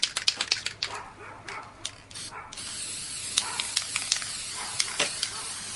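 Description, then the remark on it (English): An aerosol can of gold 18 karat spray paint hisses as it sprays a frame and a little of the artwork, first in short clicking spurts, then in a steady, continuous spray that carries on to the end. “I'm spraying gold 18 karat spray paint on my frame right now, and a little bit on the actual work.”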